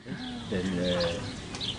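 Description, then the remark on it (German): Birds chirp at a campsite in the Siebengebirge in short high calls against low, cooing-like tones, with a murmur of voices in the background throughout. “Die Vögel zwitschern, die Luft riecht frisch.”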